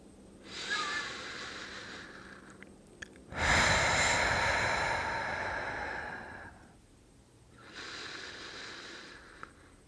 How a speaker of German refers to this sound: Lass uns ein paar Atemzüge nehmen. Wir atmen ein auf 2 und atmen aus auf 4.